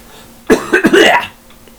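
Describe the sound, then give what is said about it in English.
A person fakes a harsh smoker's cough: a sharp initial bark followed by a raspy, gravelly hacking that trails off within about a second, with no talking. “it's my simulated smoker's cough.”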